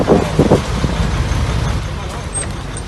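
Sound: garbage truck engine running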